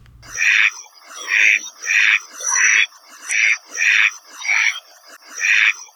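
A Kaloa Maoli, Hawaii's endemic duck, gives a steady series of about eight loud, raspy quacks, evenly spaced and each lasting roughly half a second, with no voices around them.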